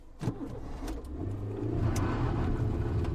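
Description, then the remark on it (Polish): A car engine revs up and accelerates as men who have just jumped into the car hurriedly drive off, its pitch climbing and the sound growing louder over a few seconds, with a sharp transient near the start and no voices. “Bezwładnego włożyli do bagażnika i pospiesznie wskoczyli do auta.”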